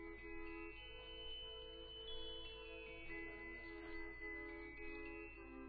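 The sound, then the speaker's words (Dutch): A glockenspiel plays a short run of bright, chiming metal notes that ring and overlap at a gentle, steady pace, heard on its own without any voices. “Nee, klingelt het klokkenspel.”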